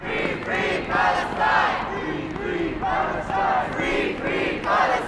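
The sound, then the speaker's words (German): About 300 demonstrators chant in unison outside the Berlin Abgeordnetenhaus in freezing cold, loud voices rising and falling in a steady repeated rhythm of roughly one phrase per second, with shouted syllables blending into a continuous roar. “Vor dem Abgeordnetenhaus war eine Demonstration angemeldet und Thomas Fitzel war für Fazit vor Ort.”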